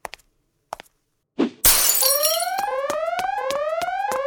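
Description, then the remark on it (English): A loud smash of a glass display case holding a tusk bursts out after a few light taps and a thud, followed by sharp repeating alarm chirps that keep sounding. “smash the glass, grab the tusk, be the hero.”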